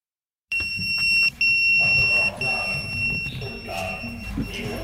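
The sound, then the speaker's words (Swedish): A fire station alarm blares abruptly at night, echoing in a room with beds, a loud, steady high-pitched electronic tone that breaks off briefly a few times and continues over a low rumbling background. “Det kalla ljuset slår mot mig och larmsignalen ekar helt plötsligt i rummet.”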